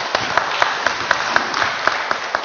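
An audience claps steadily for a couple of seconds, a dense patter of many hands with sharper individual claps poking out at a regular beat, with no voices in it.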